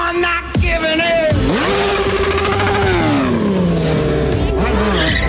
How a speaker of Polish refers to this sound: Mam problemy techniczne z motocyklem. Grzeje mi się strasznie, no i boję się po prostu, że mi silnik wybuchnie.